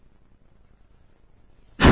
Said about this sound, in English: Excuse me, that was a loud cough.